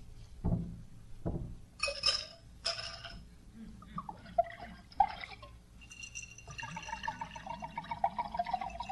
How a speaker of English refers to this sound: What are you drinking there, scotch? Yep. I think I need to pour myself one of those, too.